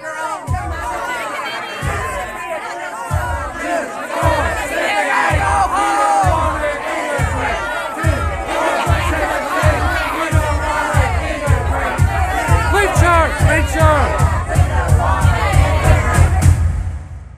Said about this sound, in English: In the meantime, people were screaming behind me what I would have described as a crowd before. To my ears, sounded like a mob.